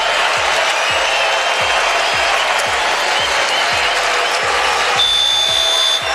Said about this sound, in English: Yeah, listen to this, courtesy of NBC. A standing ovation from this crowd.